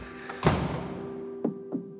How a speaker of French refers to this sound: Ah, il y a une porte qui s'ouvre.